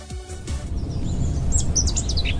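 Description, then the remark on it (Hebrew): Several birds chirp and tweet in quick, bright bursts, clustered toward the second half, over a steady low rumble of background noise with no one speaking. “ציפורים.”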